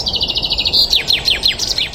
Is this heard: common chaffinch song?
yes